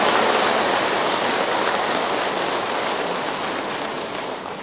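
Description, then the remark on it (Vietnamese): A dense, sustained wash of clapping from a large Buddhist audience to officially open the program, loud and steady throughout, easing off slightly toward the end, with no voices over it. “Vâng, kính thưa toàn thể đạo tràng, để chương trình được bắt đầu, xin toàn thể đạo tràng dành một tràng pháo tay thật lớn thật dài để cho chương trình của chúng ta được chính thức bắt đầu.”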